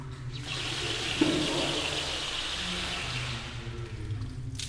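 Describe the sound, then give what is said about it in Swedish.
A Turkish hammam master sings and pours water steadily over the body of a person lying on a mosaic bed in a hammam at 40 degrees heat, a broad rushing wash of water lasting several seconds, with a brief louder splash near the start and low murmuring tones underneath. “…, den turkiska hammammästaren, sjunger och häller vatten över min kropp”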